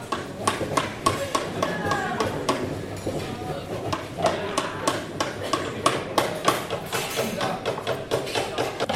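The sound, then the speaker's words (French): Repeated sharp wooden knocks ring out at an irregular pace as students strike mallets while making small furniture in a busy woodworking workshop, with voices murmuring in the background throughout. “Les élèves travaillent sur de petits meubles, ils utilisent des scies, des maillets et des ponceuses, sous l'autorisation du professeur.”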